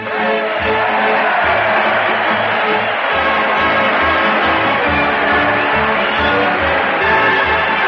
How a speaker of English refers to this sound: Listen to that crowd cheer Fred Allen as he leads his weekly parade into the doors of the old Town Hall.